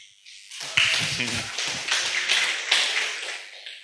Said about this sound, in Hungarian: úgyhogy köszöntsétek őt egy szeretettel és tapssal.